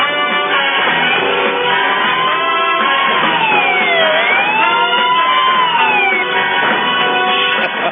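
A small red rescue truck's siren wails in slow rising and falling sweeps, steady and loud, over a dense wash of crowd noise and rumble.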